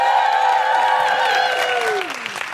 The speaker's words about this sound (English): Okay. Just give her a big round of applause.